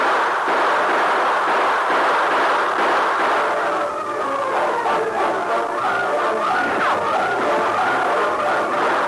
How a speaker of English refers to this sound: Opening volley of gunfire